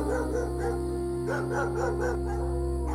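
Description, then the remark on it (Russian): Several wild dogs bark and yelp in a string of short, arching cries that overlap in quick succession over a steady low hum, with no one talking. “Кошка отвела свой невозмутимый взгляд от диких псов и победоносно осмотрелась вокруг.”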